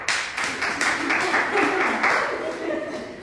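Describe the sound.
A few students in a class clap in a loose, uneven patter for a few seconds, moderately loud, with soft murmuring voices underneath.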